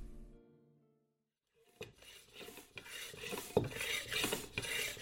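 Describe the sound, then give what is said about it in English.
Racing bike tires being pumped up rock hard: after a brief fading tone and a pause, a hand pump pushes out a run of harsh, rasping air strokes in a rough, repeating rhythm, with no voices. “When you pump up the tires of a racing bike like this beauty here, you want to make the tires rock hard.”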